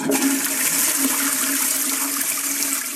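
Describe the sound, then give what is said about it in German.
A toilet flushes with a loud, steady rush of water that fills the whole moment, continuous, with no voices over it. “Aber dazu kommt die Klospülung, Dusche und Badewanne, das Wasser aus Restaurant, Küchen und Fabriken und natürlich noch das Regenwasser, das in die Gullis läuft.”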